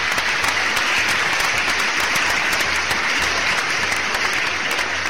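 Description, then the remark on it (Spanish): Steady, full applause from a large audience welcoming a guest from Adventures Venezuela on Tierra de Aventuras, dense crackling claps filling the whole span at a loud, even level with no voices rising above it. “Démosle un fuerte aplauso”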